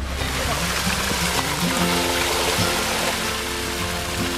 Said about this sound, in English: Hey, I'm at the ranch. I'm gonna get my trailer washed out. The good thing is, I don't have to do it.